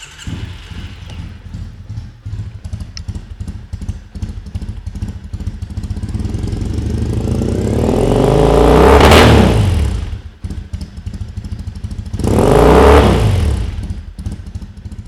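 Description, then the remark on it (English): A motorcycle engine rumbles at a steady idle, then is revved hard twice, each roar rising in pitch and falling back, the second burst shorter than the first. “So you'll hear my motorcycle real quick, and then you'll hear the interview right into that.”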